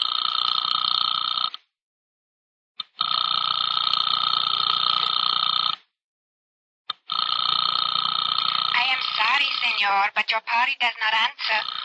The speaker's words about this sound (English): I sat there for a full 5 minutes listening to the ring of a phone I knew wasn't going to be picked up. But you die hard in a case like that.